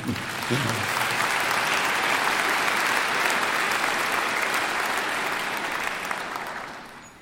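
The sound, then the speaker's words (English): An audience breaks into steady, sustained applause after being asked whether they have received Jesus, a dense wash of many hands clapping at even loudness for several seconds before gradually tapering off at the end. “You can clap if you have.”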